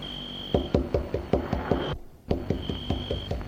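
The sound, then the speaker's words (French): Quick, solid knocks on the wooden front door of a house, about seven in a steady run, a brief pause, then another similar series, with a faint high whine in the background and no voices. “Arrivé vers la maison de Pierre, il le sort de la barque et va frapper à la porte.”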